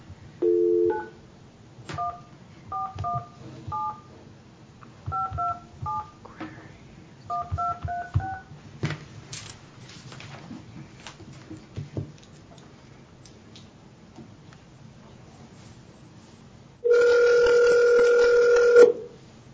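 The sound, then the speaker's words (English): A quick series of touch-tone dialing beeps in uneven bursts as a phone call is placed, then a pause with faint background noise before a loud, steady phone ring tone sounds for about two seconds. No one speaks. “we'll try to call her again.”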